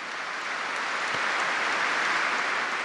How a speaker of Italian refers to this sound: L'applauso lungo e commosso testimonia l'amore filiale dei fedeli per Benedetto XVI, ora pellegrino orante sul Monte del Signore per il bene della Chiesa.